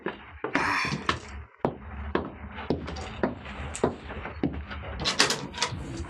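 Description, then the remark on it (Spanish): Heavy, insistent pounding on a door, a steady series of loud thuds, followed by the sound of the door being opened, with no voices. “¿Y ese modo de tumbar la puerta?”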